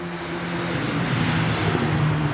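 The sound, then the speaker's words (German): Steady road traffic on the busy Nordring in Gütersloh, East Westphalia, Germany, roars for a couple of seconds, a broad wash of tire and engine noise with a low engine hum underneath that swells slightly as vehicles pass. No voices. “Gleich hinter dem vielbefahrenen Nordring der Stadt in Ostwestfalen.”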